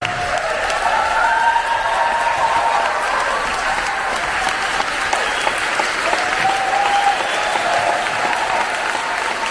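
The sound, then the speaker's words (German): Sustained, dense applause from a large crowd of over 1000 film critics and trade visitors, a standing ovation for Tom Cruise in the Salle de Bussy in Cannes. It is steady and loud throughout with no pauses, and a few faint cheers or whistles rise briefly above the clapping. “Standing ovations im Salle de Bussy in Cannes.”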